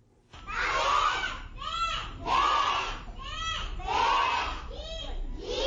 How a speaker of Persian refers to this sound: شما آواز کودکان سیک و هندوی را میشنوید که در عبادتگاه مرکزیشان در جلال آباد درس میخوانند.